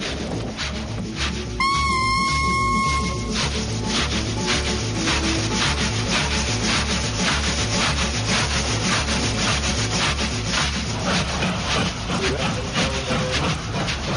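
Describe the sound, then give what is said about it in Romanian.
An old train rattles and clatters along, with steady rhythmic low thumping under continuous grinding noise and a brief high tone early on. “Lovite ar năbădăile, trenul ăsta sau căruță, frate, brac. Zdrungele și hodorogește mai abitir ca droșca lui Marin Zarzabatiu.”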